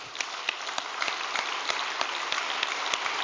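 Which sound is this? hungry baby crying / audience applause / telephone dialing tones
audience applause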